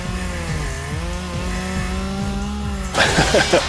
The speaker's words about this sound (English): 15 points of slashing damage as the chainsaw begins to grind and spit spark and fire against this wonderful mechanical monstrosity.